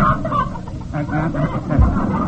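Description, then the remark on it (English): A hen named Tilly, a joke meter hen carried in a bag, clucks in a rapid string of short, nasal clucks, fairly loud, running continuously for a couple of seconds over a low background rumble. “Precisely, and I've got Tilly, my joke meter hen, right here in the bag.”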